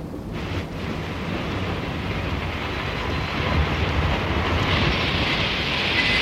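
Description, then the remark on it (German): A train rumbles in a dense, steady roar that builds into a louder hiss toward the end as it slows to a brief halt at a station in thick fog. No voices. “Der Nebel ist zu dicht, mach schnell, der Zug hält nicht lange.”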